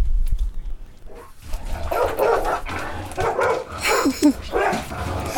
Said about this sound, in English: Goddamn dog, we gotta get that dog about it.